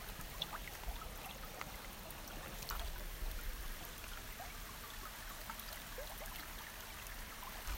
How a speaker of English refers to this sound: I decided to stay here by the creek and do our ritual recording outdoors by the creek today. So if you notice any background sounds, that is because I am sitting here by the water, which you might be able to hear.